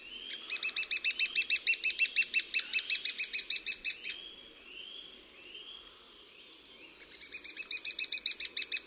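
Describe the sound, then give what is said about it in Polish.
A lesser spotted woodpecker gives a fast, even series of shrill, piping kee-kee-kee notes, pauses amid softer calls, then starts another rapid run; clear, with no other sounds. “Sylaby zwykle wydawane są w jednakowym tempie, jednak czasami pod koniec zwrotki tempo nieco zwalnia.”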